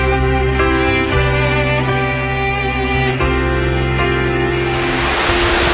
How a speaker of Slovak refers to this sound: Divoká rieka Bela, nachádzame sa priamo pri nej, stále v obci Liptovský Peter. Táto rieka je naozaj divoká